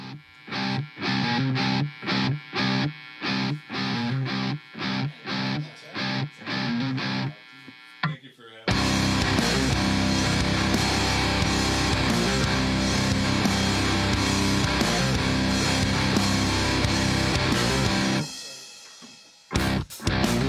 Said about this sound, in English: Right now we have their brand new song